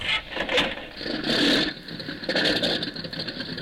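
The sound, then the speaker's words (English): The small single engine of a gray-white monoplane coughs and turns over as its 9-foot propeller starts turning, running with a rapid, rattling mechanical rhythm, loud, surging slightly in bursts, no voices; on the morning of May 20 at Roosevelt Field, New York. “At 9 minutes before eight on the morning of May 20th at Roosevelt Field, New York, the small single engine on a gray-white monoplane coughed once, turned over, and its 9-foot propeller began its revolutions”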